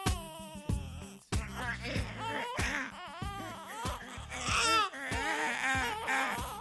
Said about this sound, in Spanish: Aterrorizado, dio un paso atrás. Cuando de repente le sorprendió el llanto de un niño.